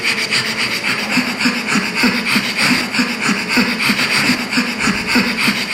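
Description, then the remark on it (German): A pug, whose snout and airways are too short from breeding, breathing heavily, with loud, raspy, snorting breaths repeating in a steady quick rhythm, continuous throughout, with no talking. “Das ist ein Mops, der schwer atmet.”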